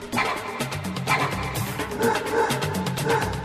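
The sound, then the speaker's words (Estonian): A dog barks repeatedly in quick, yappy bursts, close and fairly loud, with a steady rhythm across the few seconds and no one speaking. “kõss , mis haukumine see siin kõrva ääres on ?”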